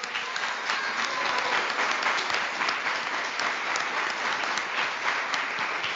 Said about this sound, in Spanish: Un aplauso para los niños. Y para los niños de toda Colombia que nos acompañan a esta hora, también un fuerte aplauso.